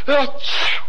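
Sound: sneeze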